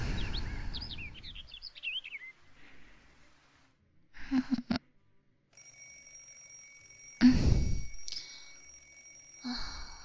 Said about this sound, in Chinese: 钟响了，昨天忘了关闹钟了